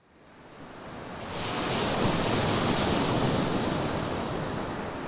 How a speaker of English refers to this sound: we're walking here at the interface between the land and ocean, Molly, better known as the beach